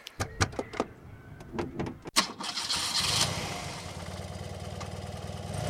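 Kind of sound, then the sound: vehicle, car engine starting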